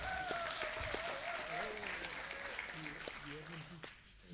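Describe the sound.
Steady audience applause fills the whole stretch, a dense wash of many hands clapping at a fairly loud level, with some indistinct voices rising over it before it thins slightly at the end.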